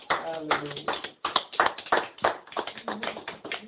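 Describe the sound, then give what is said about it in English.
An audience claps steadily together for the Lord, a dense run of sharp, loud slaps sustained for a few seconds, with voices calling out and mingling over the applause. “Well, if everybody believes he, she is saved, let's just give the Lord a mighty clap of him.”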